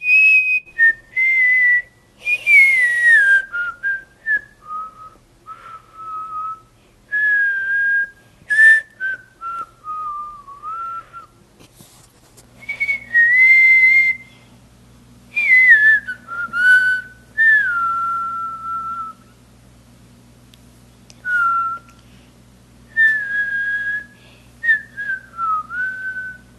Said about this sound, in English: so many more of you sent us your own versions of the But Why theme music and you whistling it